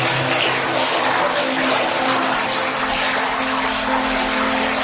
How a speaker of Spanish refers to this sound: Y ese sonido del agua, hoy es el Día Mundial del Agua